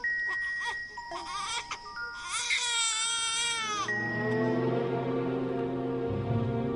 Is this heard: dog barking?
no